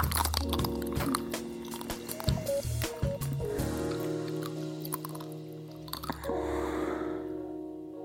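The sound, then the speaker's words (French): Crunchy bites into a chocolate-coated ice cream bar, followed by wet, squishy chewing, with a steady tonal hum underneath throughout. “Et si vous cherchez d'autres spots sur YouTube, par exemple, vous trouverez des femmes, beaucoup de femmes croquant goulûment dans leur esquimau, les yeux fermés.”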